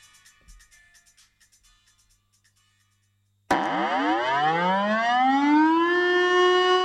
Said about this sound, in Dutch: Jullie hoorden weer de sirene, zoals gewoonlijk, laten we het staatje weten, dat mijn podcast er is. En de sirene is ook eigenlijk een soort luchtalarm.